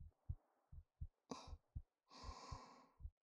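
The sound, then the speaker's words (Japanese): A steady heartbeat of deep, muffled thumps in lub-dub pairs, with soft breathing, including a long airy exhale, washing over the beats. No one speaks. “そうです、私の心臓の音。”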